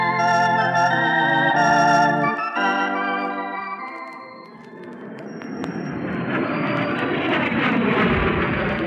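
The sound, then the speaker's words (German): A propeller airplane drones loudly overhead with a steady buzzing engine tone that shifts in pitch, then fades into a rougher, rushing rumble as it comes in to land in the far north and gets stuck in deep snow. “Doch sein Flugzeug steckt, oh weh, als er landet, tief im Schnee.”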